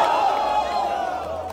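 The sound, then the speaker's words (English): A crowd of many voices lets out a loud, sustained chorus of oohs and aahs, rising and wavering together for a second or two with no clear words, as a canine security dog takes a running start and leaps airborne onto Mark Ingram's shoulders, knocking him over. “You can hear the oohs and ahs.”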